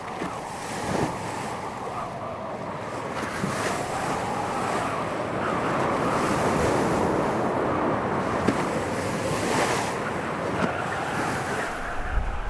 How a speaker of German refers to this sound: Cuxhaven am Mittag. Die schwere Sturmflut hat ihren Scheitelpunkt erreicht. Das Hafengebiet ist unter Wasser. Die geschlossenen Fluttore verhindern, dass das Wasser in die Stadt läuft.